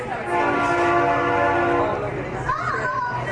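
A train horn blows one long, steady blast over the heavy rumble of rolling rail cars. The horn cuts off after a couple of seconds, leaving the clattering train and faint background noise.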